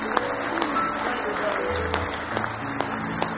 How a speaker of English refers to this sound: Give him one more hand clap of praise this morning.